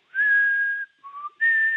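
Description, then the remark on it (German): A person whistles an imitation of the sobbing song of a nightingale in Munich: a long, steady high note, a short lower note, then a return to the high pitch. Clear and fairly loud, with no talking. “Also die Nachtigall in München, die schluchzt vielleicht so.”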